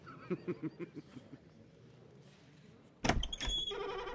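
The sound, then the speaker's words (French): A few soft rhythmic thuds, then a brief pause before a small door leading to the back of a theatre stage opens with a sudden clack followed by a squeaky, grinding slide, alone without any talking. “La petite porte qu'il m'avait indiquée donnait sur l'arrière de la scène.”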